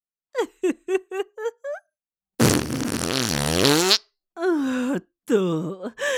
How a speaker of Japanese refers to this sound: 兄弟仲良くおならの海に沈めてあげる。